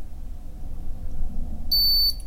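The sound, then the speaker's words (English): A single high-pitched electronic beep from a liquid level indicator placed over a cup, signalling the first level as liquid such as gin is poured in, sounds near the end, lasting under half a second, over a steady low rumble of background noise with no talking. “Did you hear that? Oh, there's a beep which indicates the first level.”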